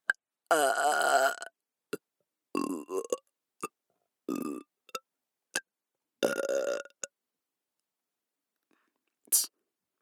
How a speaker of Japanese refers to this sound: なんでよりによってゲップなんだよ。